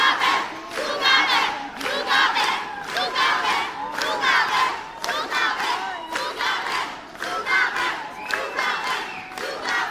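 A dense crowd of young fans at a concert screams continuously in high-pitched, overlapping shrieks as the singer leaves the stage, loud and sustained for the whole stretch with surging waves of intensity.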